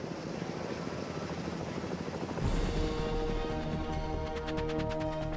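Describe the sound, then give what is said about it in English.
A Pave Hawk combat helicopter roars over glacier terrain high in the Chugach Mountains, Alaska, after a person rappels from it. Its engine whine and rotor wash are steady, then rhythmic blade thumping comes through as it pulls away. Loud throughout, with no voices. “Safely on the deck, and the helicopter is out of here.”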